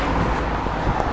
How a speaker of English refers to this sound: And unfortunately, I think this is going to be a terribly windy one because I'm by a main road, there's a lot of traffic, and there's a lot of wind. Well, slight breeze.